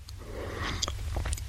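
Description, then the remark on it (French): Quiet mouth noises of someone swallowing while drinking, with a few soft wet clicks and gulps over a low background hum, and no talking. “C'est quand j'avale que t'aimes? C'est ce bruit-là?”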